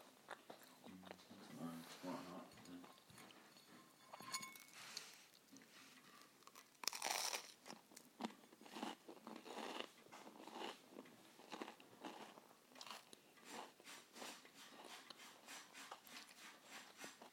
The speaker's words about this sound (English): Excuse me, crunching, everyone.